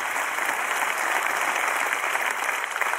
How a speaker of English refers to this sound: Clap your hands if you believe he crashed. How many of you are confused and you're just clapping to be polite to me because it's Pastor Appreciation Month?